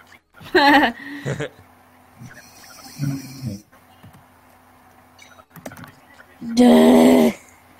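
Two loud, rough, snorting grunts like a wild boar's, one near the start and a longer one near the end, with quieter scuffling sounds and a low steady hum between them.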